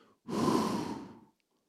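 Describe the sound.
A person exhales once, a long, forceful breath blown out through the mouth for about a second, fairly loud, imitating someone breathing onto others. No talking.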